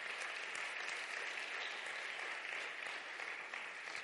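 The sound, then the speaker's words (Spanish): An audience gives a loud round of applause to the King. It is a dense, even wash of many hands clapping that holds at a constant level for the whole stretch, with no voices rising above it. “Dar un fuerte aplauso al Rey.”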